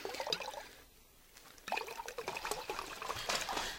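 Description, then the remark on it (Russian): Liquid pouring into a glass in two bursts, a splashing, gurgling stream with a brief pause in between, fairly clear with no voices. “А мне стакан воды.”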